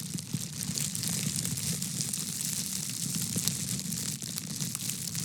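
A steady, dense crackling and rustling of a plastic bag being handled continuously, producing a hiss that imitates falling rain, with no talking throughout.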